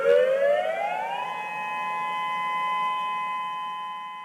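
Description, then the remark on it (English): A community tsunami warning siren in the Kenai Peninsula Borough, which can be triggered from Seward, winds up in pitch over about a second, then holds a steady, loud wail with layered harmonic tones, sounding alone with no voices. “But the actual warning siren is triggered at the community level.”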